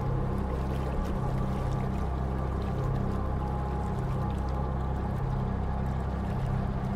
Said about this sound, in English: The small coal-powered fishing boat chugs up to the pier where hospital tents are being set up by soldiers in the fields outside a small, shattered village.